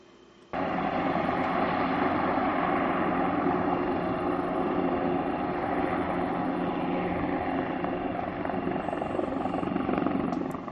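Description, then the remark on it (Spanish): A rescue helicopter roars steadily and loudly overhead while searching the area around the Torre de Hércules at night for people feared fallen into the sea, its rotor thrum and engine whine filling the air without pause for about ten seconds after a sudden onset. “Sobre las 9:30 rastrearon la zona los bomberos con su grupo de rescate acuático y el helicóptero Elimer.”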